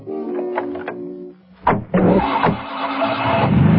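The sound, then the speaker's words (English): A police car's engine turns over and catches as two policemen jump in, then revs up into a steady, loud roar as the car pulls away, with no voices. “The two policemen run to their car and jump in.”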